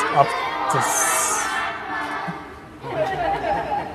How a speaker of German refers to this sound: Das haben wir. Weiß nicht, ob man das hört. Wir haben hier ein klassischer Satz in einem hier ist ein Zug Kinder aufmarschiert mit Zugführer und ich glaube, es ist auch ein Offizier dabei. Mhm. Offizierin, Leutnant oder so. Feldwebel.